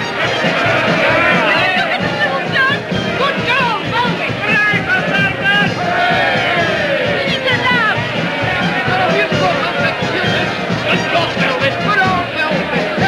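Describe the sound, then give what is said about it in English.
A dense crowd of adoring fans roars with excited hubbub, many voices chattering and cheering together at steady loudness throughout without pause, at night as two gentlemen in black bowler hats hoist Velvet Brown onto their shoulders high above the crowd. “Two gentlemen in black bowler hats hoist Velvet onto their shoulders high above the crowd.”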